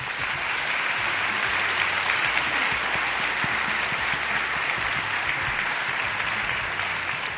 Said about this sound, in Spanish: y como reconocimiento también a todos aquellos que nos escuchan, que son emprendedores y que se acuestan todos los días sin saber el sueldo que van a ganar, un aplauso también para todos los emprendedores de este país, me gustaría pedir.